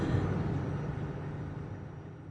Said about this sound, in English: sleeping for a while at a truck stop on I-80 west of Des Moines, where a television blares the good news about the stock market.